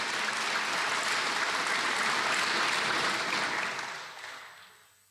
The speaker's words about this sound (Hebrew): כן, כפיים לעם ישראל.